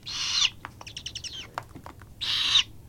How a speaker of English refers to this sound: But have you ever heard a great horned chick?